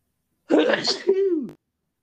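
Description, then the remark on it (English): A single sharp, fairly loud sneeze: a noisy breathy burst that ends in a short voiced 'choo,' followed by silence. “Gazante.”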